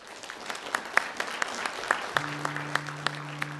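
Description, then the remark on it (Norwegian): An audience claps steadily, a dense patter of many hands at moderate volume, applauding to thank everyone who took part that day; partway through, a low sustained tone joins in beneath the clapping. “Og så vil jeg takke alle som har hjertelig I dag, og alle som har pratet seg en ekstra applaus til det.”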